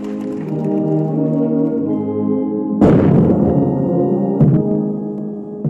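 A ceremonial cannon salute by soldiers for South Africa's President Ramaphosa fires two loud booms a couple of seconds apart, cutting through a sustained brass chord as an army band plays the national anthem. No one speaks.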